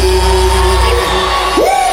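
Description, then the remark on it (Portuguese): A crowd lets out short shouts and whoops, loud, with a rising whoop near the end over a steady background of cheering. “Quem gostou dá um gritinho aí.”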